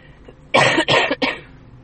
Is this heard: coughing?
yes